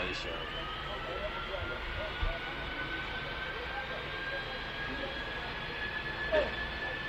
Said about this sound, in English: you'll see a bunch of people very, very close by the runway at, here at Arusha, cheering on the 767 as it made its very short flight from there to Kilimanjaro Airport. And let's listen to the beautiful sound of those 767 engines.